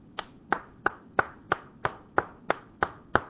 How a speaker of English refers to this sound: My applause.